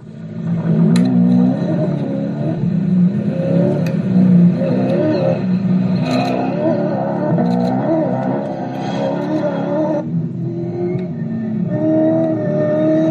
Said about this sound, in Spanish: Y fíjate cómo suena esta bestia de 385 caballos, este Toyota que ganó este año el Rally Dakar, el Toyota Hilux.